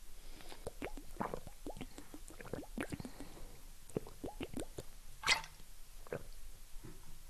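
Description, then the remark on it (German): Someone drinks a sip of water: a quick run of quiet gulps, wet mouth clicks and swallows, with one sharper, louder gulp near the end and no talking. “So, ich trinke jetzt einen Schluck Wasser.”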